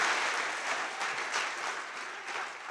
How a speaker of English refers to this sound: Can we have a clap, please? That's right. That's right.